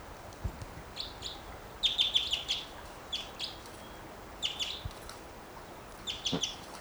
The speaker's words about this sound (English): Here's that bird again. Wild.